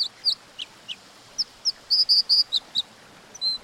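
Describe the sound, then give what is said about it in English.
A dipper sings a series of sharp, high-pitched chirps, scattered at first and then bunching into a quick run of bright, buzzy notes, heard alone over a faint steady background hiss. “These dippers are also much more likely to stay on their home territories rather than expend energy to forage widely.”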